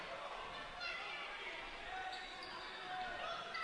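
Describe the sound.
A basketball is dribbled on a hardwood court during a basketball game, amid steady, noisy gym ambience, with crowd murmur and indistinct voices filling the background throughout.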